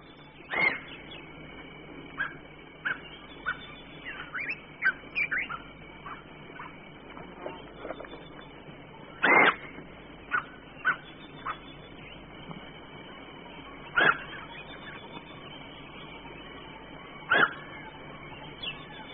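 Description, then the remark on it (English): A reedbuck calls in short, sharp, high whistling bursts, spaced irregularly over a quiet background, with a few louder calls standing out among fainter ones. “While the bushbuck barks to warn of approaching danger, the reedbuck makes quite a different sound.”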